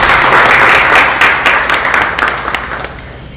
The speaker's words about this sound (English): So can we please give them another round of applause?